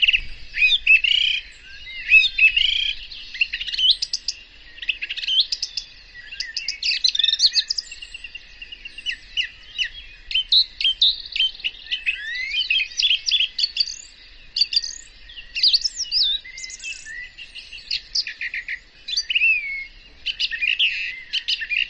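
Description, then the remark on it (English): A song thrush sings continuously, bright clear phrases each repeated a few times before switching to a new one, loud against a quiet background with no voices. “the song thrush. This is a bird that loves to feed on snails”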